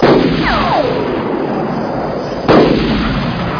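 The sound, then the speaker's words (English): Two loud gunshots from somebody shooting at people ring out about two and a half seconds apart, each a sharp crack trailing into a long rumbling echo, with a brief whining streak just after the first. “Somebody shooting at us.”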